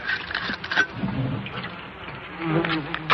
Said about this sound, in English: Smoking out the resident wasps. Getting rid of the old wasps' nests is a tradition not unlike the lighting of incense before the graven pagan image of some Babylonian bull or pig. But they never had white gas.